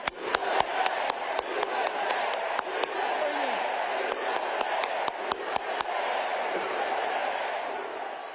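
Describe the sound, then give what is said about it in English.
At a Harris-Walz rally in Arizona, a large crowd chants "USA" in unison over a steady roar, punctuated by sharp, loud individual claps from Tim Walz in irregular bursts that stand out above the din. “That was Tim Walz clapping, the loudest clapper, and the crowd chanting, USA, USA, USA.”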